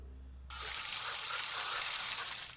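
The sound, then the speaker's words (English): After a faint low hum, a soda gun nozzle bursts into a steady, loud spray of liquid, a bright hissing rush lasting about two seconds before easing off. No one speaks. “Don't hesitate, just pull up your nozzle and spray.”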